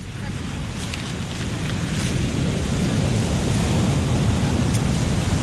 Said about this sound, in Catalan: A veure si les sentiu. A veure, a veure. Està a punt de petar una onada, a veure si ho sentiu.